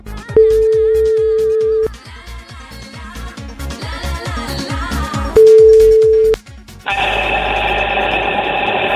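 A phone line rings out twice as the radio station RCI places a live on-air birthday call to a listener 8,000 km away, two long steady ringback tones with a gap between them, over a rhythmic thumping beat, then a burst of crackly line hiss.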